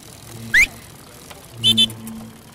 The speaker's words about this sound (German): Das sind tausende Fahrräder, die sich hier gerade fast geräuschlos radeln hören, nur unterbrochen von Pfiffen statt Klingeln bei Gefahr in Verzug. Das Ganze aufgenommen in Bogotá, der Hauptstadt Kolumbiens.